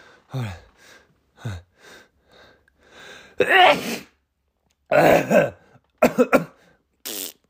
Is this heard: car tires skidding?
no